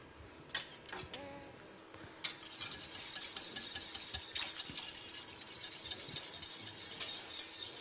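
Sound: stirring water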